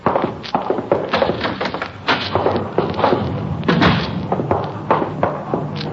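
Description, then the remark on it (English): A door connecting to a coffee shop opens and closes with a few solid thunks and knocks, set against a busy, clattering indoor background. “You can use that door right here. It connects to the coffee shop.”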